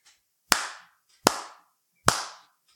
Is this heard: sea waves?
no